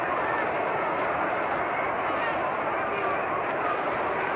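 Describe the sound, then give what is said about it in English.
A baseball stadium crowd at a Giants game rumbles steadily during the last half of the third inning with the score tied 2-2, a dense, continuous roar that holds an even loudness throughout, with no clear voices standing out above it. “And the rumble of that crowd can still be heard.”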